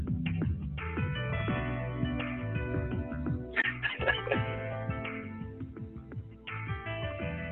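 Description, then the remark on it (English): Slow jazz plays steadily through a participant's phone on a group call, sounding thin and tinny with the highs cut off, continuous and fairly loud throughout, with no one talking over it. “Whoever has a slow jazz on, could you turn that off or just hang up on the call, please?”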